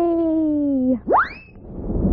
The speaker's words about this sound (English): Will you whistle up the Let's Pretend Express train? Magical sound man, a fast subway train, please. One, two, three.